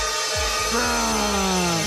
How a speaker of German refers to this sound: Die ersten Sägen klingen schon so.